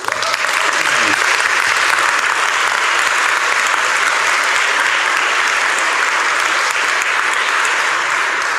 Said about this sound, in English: And I think if you know them, go and congratulate them. But can we clap for them now?